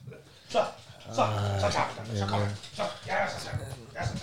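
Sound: small dog whimpering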